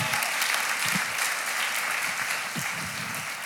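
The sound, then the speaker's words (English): An audience claps to welcome a speaker invited up, a dense, continuous wash of applause that holds at a fairly loud, even level throughout, with no voices standing out. “if you guys can give her a big round of applause.”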